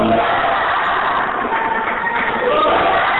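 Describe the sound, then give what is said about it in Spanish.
A crowd claps steadily and loudly for several seconds, a dense crackling wash of applause with faint voices mixed in beneath it, as the people of Nieles bid farewell to San Blas at the end of the festival procession. “Están aplaudiendo, acaba la procesión.”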